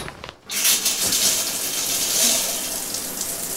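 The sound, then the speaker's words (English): A shower runs steadily after a brief quiet start, a continuous hiss of spraying water with no voices over it. “A baby shower.”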